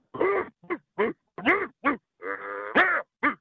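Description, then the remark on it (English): A person imitates a dog barking with a rapid string of about eight short, throaty yaps, loud, followed by a longer drawn-out growl and a couple more barks. “How are people so good at barking?”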